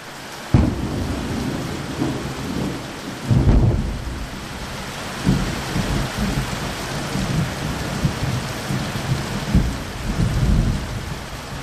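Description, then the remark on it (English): Heavy rain pours steadily during a rainstorm in Haiti in spring, while thunder rumbles several times, with deep booming rolls around the start and a few more low swells later in the storm. No one speaks. “That was a rainstorm when I was in Haiti last spring.”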